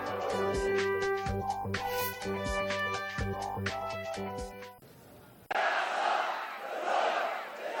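protest crowd chanting

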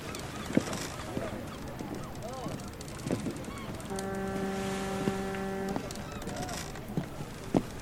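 seagulls calling

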